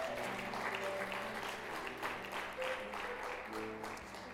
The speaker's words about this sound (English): You can go on and say amen, and maybe even a round of applause for those who have just been newly baptized.